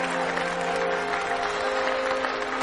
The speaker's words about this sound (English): stands and claps.